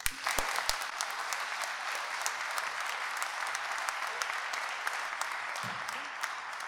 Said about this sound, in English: And I would be delighted if you would give a rousing applause